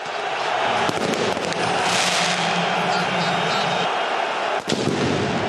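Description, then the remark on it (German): Sharp firecracker blasts crack out repeatedly over a dense, roaring football stadium crowd, with a few louder bangs near the start and again toward the end; the firecrackers are thrown from the Kaiserslautern fan block toward the main stand after the final whistle. “Böller aus dem Block von Kaiserslautern fliegen Richtung Haupttribüne.”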